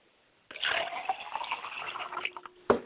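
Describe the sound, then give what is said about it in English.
Liquid is poured as a libation in a ritual offering to spirits and the four directions: a steady, splashing stream for about two seconds after a short silence, ending with a brief louder splash or clink; no one speaks. “we're going to go ahead and pour libations”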